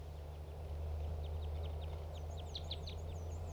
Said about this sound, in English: These are wild birds calling, the ones in the trees.